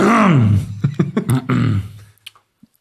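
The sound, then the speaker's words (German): A man clears his throat, starting with a low, groaning voiced rumble and breaking into several rough, raspy bursts before falling quiet, with a faint click at the end. “Räusper dich erstmal, mein Freund, räusper dich erstmal.”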